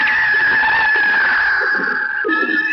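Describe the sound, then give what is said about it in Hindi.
A very large kite's loud, drawn-out screeching call rings out in one continuous cry, wavering slightly and briefly dipping near the end before carrying on. No one speaks. “अरे ये क्या, इतनी बड़ी चील कहां से आ गई?”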